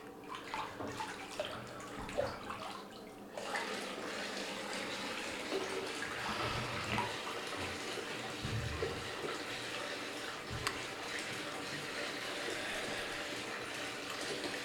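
Hot water rushes and splashes in a bathtub on Christmas Day as a hot bath is taken, a dense steady wash of sound with occasional louder sloshes, continuous throughout, with no voices.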